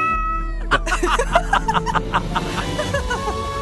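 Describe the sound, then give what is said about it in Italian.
Cats meow in a quick, rhythmic string of short calls, fairly loud, over a steady sustained tone in the background. “Ma come, i gatti?”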